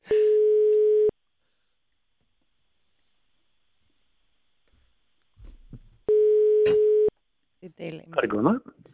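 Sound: telephone ringing tone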